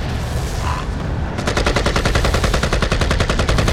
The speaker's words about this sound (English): The Iranian began dancing, holding back on the trigger of his assault rifle, Avalon glimpsing two, then three of his fellow extremists absorbing rounds, tumbling as the autofire blazed on.